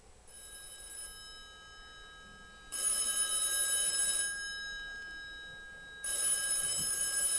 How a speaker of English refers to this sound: And some of you are like, what is that, right? It's a phone, okay? If you hear a phone in the middle of the night, right? They don't make those anymore. Not like that anyway.